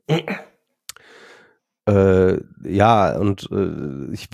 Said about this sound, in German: Ich huste eigentlich immer noch morgens und abends, wenn ich ins Bett gehe, so, ne, irgendwie, also aber nur noch so abhusten, also nicht mehr schlimm. Muss immer gerade schon nochmal ein bisschen husten.